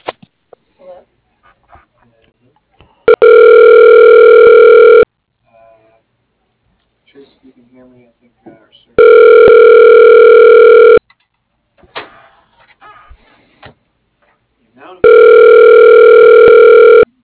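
A loud, steady electronic telephone tone after a dropped call repeats three times, each burst about two seconds long with pauses between, while faint murmuring and small noises fill the gaps.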